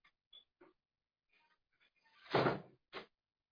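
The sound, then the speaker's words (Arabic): A door is pushed shut with a solid thud, preceded by a few faint clicks and handle rattles, then a short second knock as it settles in the frame. Fairly loud. “اذهب شوية، اقفل الباب يا أبي.”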